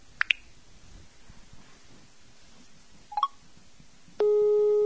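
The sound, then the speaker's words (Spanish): A few brief electronic blips, then a loud, steady electronic tone from the Light Detector app on an iPhone, reacting to the lit room light as the phone is raised, starts near the end and holds without a break. No one speaks. “¿Lo ven? Ahí está el famoso pitido.”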